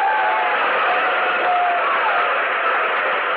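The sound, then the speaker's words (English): A big convention crowd cheers and applauds after a plea to help the 400,000 needy and crippled children of the United States, in a steady, dense roar that stays loud and unbroken throughout, with no one speaking over it. “The cheering and applause go on and on.”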